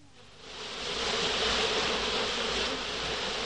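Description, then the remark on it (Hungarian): Bees buzz steadily, a continuous droning hum that swells in the first second and then holds at an even level with no voices present. “Mit csinálnak a méhek a rózsákon?”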